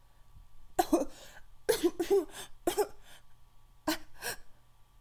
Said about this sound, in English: You let it rest on my face as the wet cloth forces me to cough and struggle for air.